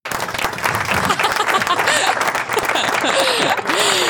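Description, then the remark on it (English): A crowd breaks into loud, sustained applause, dense rapid clapping that holds steady for about four seconds, mixed with cheers and a few rising whistles. “I thought that deserved a round of applause.”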